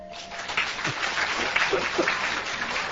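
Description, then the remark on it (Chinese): A crowd claps steadily to show it agrees that police should study Buddhism. The clapping is a dense, continuous patter of many hands that stays at an even, moderately loud level throughout, with a few faint voices mixed in underneath. “你说警察要不要学佛？要就拍手。”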